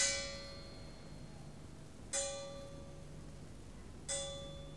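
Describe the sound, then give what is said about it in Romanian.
The clock of Peleș Castle chimes the half hour at night in the distance, three soft bell strokes about two seconds apart, each ringing with a bright metallic tone that slowly fades, over a faint low hum with no voices. “orologiul de la castelul Peleș se aude în depărtare, bătând noaptea jumătate.”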